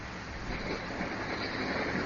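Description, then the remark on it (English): A steady, continuous rumble of train noise from a caller riding a train fills the whole clip, muffled and band-limited as heard over a Skype call, with no voices. “He's on a train. The person is on a train.”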